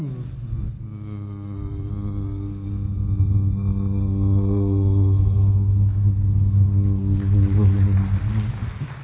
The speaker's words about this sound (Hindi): तभी आसमान से पैसेंजर जहाज की आवाज आती है।